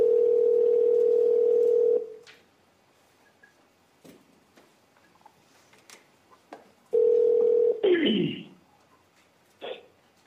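A steady, low-pitched telephone dial tone on a phone wiretapped by investigators hums loudly for about two seconds, then faint clicks and line noise, before the tone returns briefly and cuts off with a sharp clatter.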